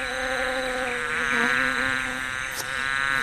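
A steady insect buzz drones on without pause, its harmonic hum wavering slightly in pitch as bees hover at the flowers of a garden, gathering nectar. No voices are heard.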